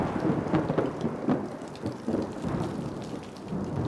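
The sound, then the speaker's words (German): A thunderstorm with lightning, steady heavy rain hissing throughout and low rumbles of thunder rolling underneath, dense, with no voices. “Es blitzte und donnerte. Der Regen stürzte herab und es war ganz entsetzlich.”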